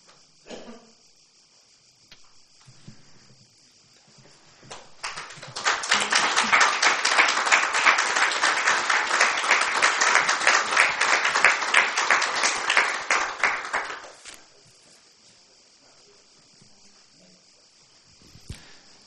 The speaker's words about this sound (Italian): L'applauso è già il commento, quindi non aggiungo parole di commento.